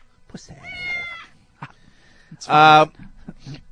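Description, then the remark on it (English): A person imitates a cat with two drawn-out, whiny meows, the second louder and more strained, separated by a short pause and small mouth noises. “Meow.”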